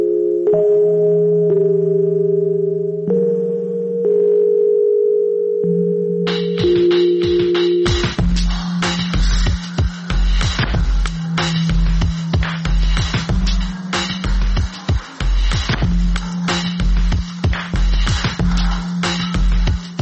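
Soft, mellow Rhodes electric piano chords sustain slowly on their own, then a heavy, steady drum beat with crisp, hissy percussion joins partway through while the piano keeps playing underneath.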